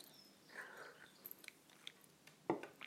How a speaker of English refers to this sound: But I can still detect that this is extremely sweet, just beautiful, delicate smell. The color is enticing. I am going to have a sip.